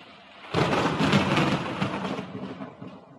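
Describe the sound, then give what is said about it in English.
A loud, sudden roll of thunder breaks in after a brief quiet, rumbling deeply over a steady hiss of rain before slowly fading away. No one speaks. “Well, the weather came back.”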